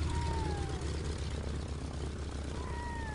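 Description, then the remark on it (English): A steady, droning propeller engine of a floatplane hums low and continuous, with a faint pitch that slowly glides and shifts as the plane taxis to the far end of a lake. “With a shove, the floatplane taxis to the far end of the lake, where a pair of red-throated loons watches with alarm.”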